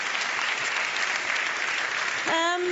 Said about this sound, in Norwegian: Kan du gi ungdommen en applaus da? De er så søte.